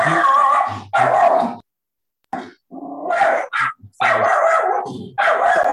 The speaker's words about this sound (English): Somebody needs to mute themselves and their dog.